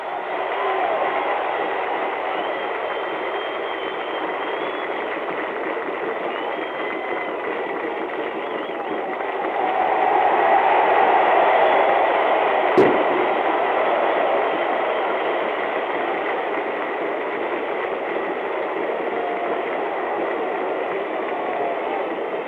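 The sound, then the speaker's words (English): A stadium crowd roars steadily as the Beavers football team, led by Coach D. Androsen, takes the field. The cheering swells louder partway through, with one sharp click near the peak and no talking. “Listen to the crowd welcome them.”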